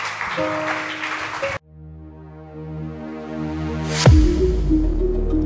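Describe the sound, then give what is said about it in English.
An audience at a church service claps steadily over sustained keyboard chords, the dense clapping breaking off after a second and a half as a rising organ-like tone swells, then a loud burst gives way to music. “Clap your hands. Don't stop clapping.”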